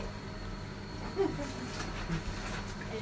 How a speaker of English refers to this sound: Oh, there you go. I can hear rain. Oh, much. It's not too loud because I can't hear it much out there, but I can hear it a bit.